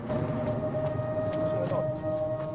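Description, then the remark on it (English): A plane's engines drone steadily overhead, a low rumbling roar with a sustained humming tone running through it at a constant level for the whole stretch. “He looks up suddenly at the sound of the plane.”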